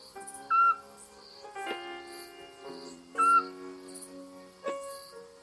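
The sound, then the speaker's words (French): Two short, mellow whistled notes of a scops owl, evenly spaced a few seconds apart, ring out clearly above a soft background of sustained, humming tones. “Encore la chouette, les cris du petit duc.”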